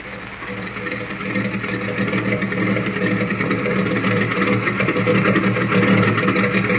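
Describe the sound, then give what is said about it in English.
An airplane engine warms up at a government airfield with a steady, loud, droning hum full of layered mechanical tones, swelling slightly in strength as it runs without a break. “Well, there's the ship warming up.”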